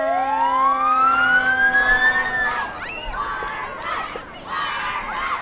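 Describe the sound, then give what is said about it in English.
A fire truck siren wails upward in pitch for a couple of seconds, loud, then gives way to a bustling crowd with scattered shouts and whistles, as two fire trucks pull up on either end of the square on Lincoln Street in Sitka during a sunny Fourth of July parade. “Two fire trucks pull up on either end of the square on Lincoln Street.”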